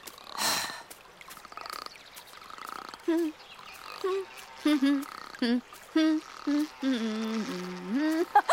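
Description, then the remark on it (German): A voice imitates a frog, letting out a string of short, throaty croaks in an uneven rhythm that ends with a longer drawn-out croak, moderately loud. “Hör doch mal auf zu quaken, hallo.”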